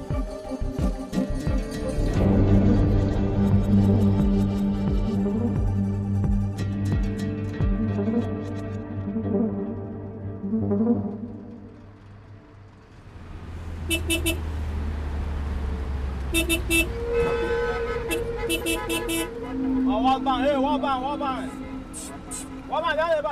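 Low, steady engine rumble from inside a bus moving along a road, with rattles and occasional horn-like tones. It follows a stretch of musical sound at the start.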